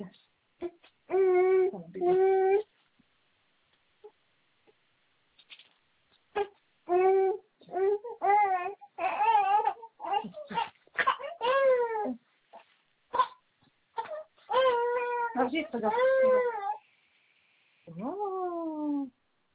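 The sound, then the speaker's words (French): A baby fusses and cries in a string of loud, wavering wails, each burst lasting a second or two and separated by short breathless pauses. “Maman va chercher la tétine, maman va chercher la tétine. Tu l'as laissée là-bas.”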